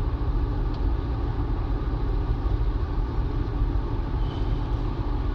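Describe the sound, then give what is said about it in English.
A steady, continuous low rumble of road and engine noise from inside a car merging with traffic, holding an even loudness throughout with no voices. “And I'm merging with traffic here, so if I...”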